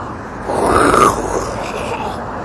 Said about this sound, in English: Sound cars make. Yeah. There's a bunch of cars coming out of here for some reason.